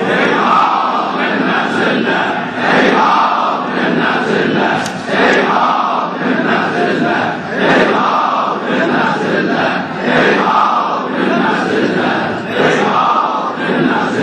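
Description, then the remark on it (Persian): A large crowd in a holy place loudly shouts the Ashura slogan "Hayhat min al-dhilla" together in unison five times at the end of a sermon, the chant repeating in steady rhythmic waves of massed voices that stay loud throughout. “ما هم در پایان خطبه همه با هم 5 بار این صدای رسای امام حسین رو در این عصر و در این مکان مقدس منعکس میکنیم با فریاد هیهات من الذله.”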